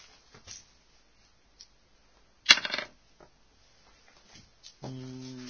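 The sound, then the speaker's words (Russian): Faint scattered clicks lead into a short, loud clatter of dice rattling and tumbling; a steady humming tone comes in at the end. “Кубики, пожалуйста.”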